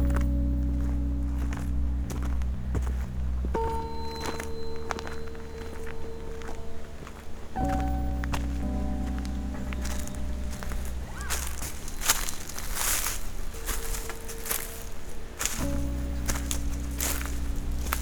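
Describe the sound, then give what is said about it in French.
Footsteps crunch and rustle through dry leaves on a mountain in an uneven, steady pace for the whole stretch, laid over a sustained low humming drone that shifts pitch a few times. “Les feuilles.”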